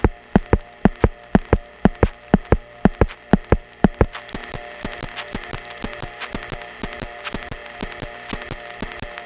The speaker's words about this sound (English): Now here are the ticks from a West 73rd Street panel supervision test.